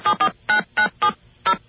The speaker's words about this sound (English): Okay, there's our dial tone. We're just going to... call up a number.